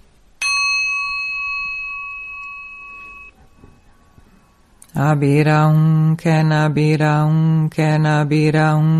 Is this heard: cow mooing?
no